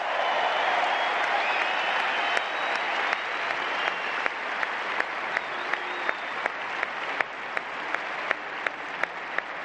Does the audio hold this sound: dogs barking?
no